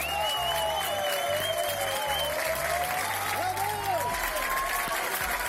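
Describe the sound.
At 1 p.m., plain-clothes police officers and civil guards applaud Guardia Civil crews leaving a ship decorated with Tweety (Piolín) drawings. The sustained applause is a dense, steady wash of many hands clapping at once, with voices and a few high whistles mixed in throughout.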